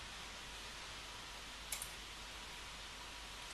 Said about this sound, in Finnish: Lopuksi klikkaa Send.